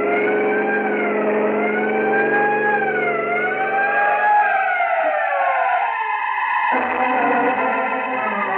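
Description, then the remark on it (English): A car siren on the road wails loudly and continuously with slow rising and falling pitch, sounded to warn trucks ahead, over the steady rumble of a moving vehicle's engine; no one speaks. “there are some trucks ahead, Peter. Sound your siren.”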